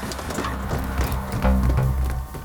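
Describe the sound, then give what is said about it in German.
Quick, firm footsteps of a woman climbing a staircase in a steady rhythm, each step a distinct knock, set against a low, sustained musical backdrop. “der Dame, die mit energischen Schritten die Treppe hinaufging und oben angekommen geradewegs auf das Zimmer zusteuerte,”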